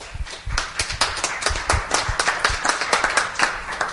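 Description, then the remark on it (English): A crowd claps steadily for several seconds, giving the Lord a cheer, a dense patter of many hands at a fairly even, moderate loudness with no voices standing out above it. “Let's give the Lord a cheer.”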